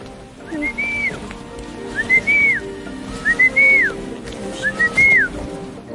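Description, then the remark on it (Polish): A boy whistles four times in a steady rhythm to call sheep, each a clear rising then falling note, loud over a constant soft outdoor hiss. “Zobaczcie, ten chłopiec gwiżdża na owce.”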